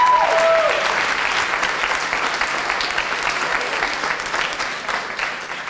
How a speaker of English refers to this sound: And it's through your work that we're able to celebrate the official opening of this arts hub. So why don't you give yourselves a huge cheer and a huge round of applause.